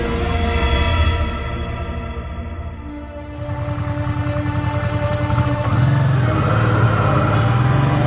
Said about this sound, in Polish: uruchomił motocykl i ruszyli w podróż do Moskwy. Jechali leśnymi drogami, co dawało im poczucie bezpieczeństwa.